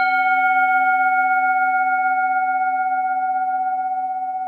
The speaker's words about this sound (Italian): Allora, vai di campana tibetana!